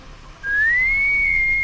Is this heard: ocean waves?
no